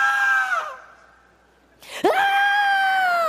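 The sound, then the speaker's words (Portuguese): A voice imitates the anguished scream of a demon crying out at the feet of Christ: a strained, harmonic wail that trails off, a brief pause, then a second loud, sustained cry rising sharply and holding, unaccompanied. “É assim que ele chorou.”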